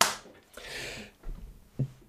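One sharp hand clap rings out at the start and decays quickly, followed by a stretch of soft hissy rustling and a few dull low thumps.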